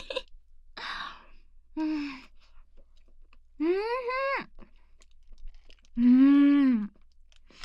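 Close, crunchy chewing comes in a few short bursts near the microphone, followed by two longer, drawn-out tonal cries with quiet gaps between.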